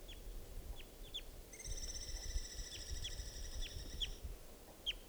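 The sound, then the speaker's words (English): A young wild bird, an immature male molting into orange plumage, calls with a long, drawn-out, reedy note lasting a few seconds, framed by several short, sharp downward chirps, over a steady low rumble. “There's a wild, immature, I believe, male here, molting into sort of an orange plumage, and that's him calling.”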